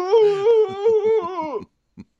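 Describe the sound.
A voice imitates the loading dock door opening at Target with a sustained, strained, mid-pitched groan. It wavers over a rattling pulse and drops in pitch at the end, followed by two short faint blips.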